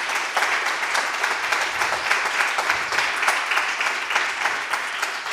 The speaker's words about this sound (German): Also bitte auch hier einen Applaus.